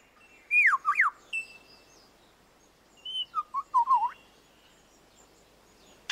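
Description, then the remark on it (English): A male lyrebird, recorded by David Attenborough for the BBC, mimics a camera shutter, a sound it picked up in the forest: two bursts of quick, sharp mechanical-sounding chirps and clicks, separated by a short pause, with a brief click at the very end. No one speaks. “He also, in his attempt to outsing his rivals, incorporates other sounds that he hears in the forest. That was a camera shutter.”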